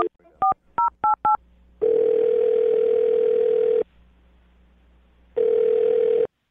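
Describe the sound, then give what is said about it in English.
Someone dials a phone number: a quick run of about six telephone keypad dialing beeps, then a loud, steady phone line tone that holds for two seconds, pauses, and starts again, with no voices. “I'm going to dial the phone number. Here we go.”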